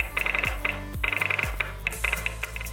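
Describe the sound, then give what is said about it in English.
A telegraph inker relay clicks and clacks out dots and dashes in rapid, uneven bursts, grouped like Morse code, fairly crisp over a steady low mechanical hum, with no one talking. “But those early telegraphists began to listen to the inker relay clicking and clacking, and rather than reading the paper tape, they listened to and read the clicks and clacks, or in other words, the dots and dashes.”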